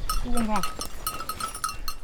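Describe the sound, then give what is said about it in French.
A flock of ewes being herded into a pen on a farm on the Larzac: one sheep lets out a wavering bleat while bells clink steadily and a steady rustle of the animals continues underneath. “Une fois les brebis parquées”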